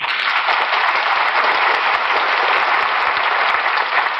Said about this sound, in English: Thank you. And since you're so generous, why not save some of that applause for Camel Cigarettes?